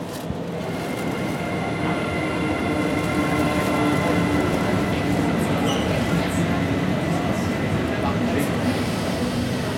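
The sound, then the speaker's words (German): An electric locomotive rumbles steadily as it slowly pulls the D300 express night train out of Berlin-Gesundbrunnen station, bound for Scandinavia: a continuous low mechanical drone with faint metallic hums and tones layered above it. “Langsam zieht die E-Lok den Schnellzug D300 aus dem Bahnhof Berlin-Gesundbrunnen.”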